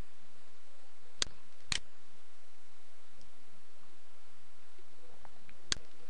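Three sharp computer mouse clicks as values are pasted and the Save button is clicked in the Windows Azure management portal, two clicks close together and one a few seconds later, crisp against a quiet hiss with no talking.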